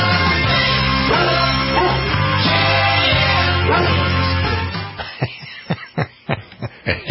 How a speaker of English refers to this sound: Like that. That's very good. Woof, woof, woof.